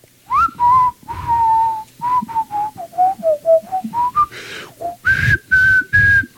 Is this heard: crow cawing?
no